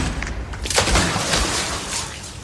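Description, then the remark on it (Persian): A loud gunshot from a Colt pistol, fired at a man's leg, rings out with a sharp, cracking burst, followed by a dense, noisy rumble and echo that lingers through the rest of the moment. No one speaks. “میخوای منو بکشی؟ نه پا بهت شلیک.”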